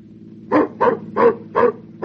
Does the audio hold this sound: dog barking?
yes